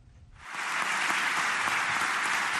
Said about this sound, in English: To rousing applause from parliamentary deputies of his party, Turkish President Recep Tayyip Erdogan Wednesday accused Western countries of seeking to relaunch the Crusades.